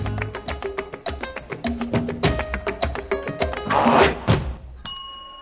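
A short burst of upbeat dance-pop music with a steady, fast, punchy beat and bright melodic tones, played loud, swelling briefly before cutting to a single sustained ringing note.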